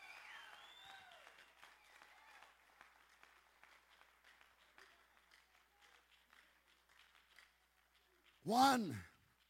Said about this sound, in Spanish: Dale un grito, dale un aplauso a este Jesús.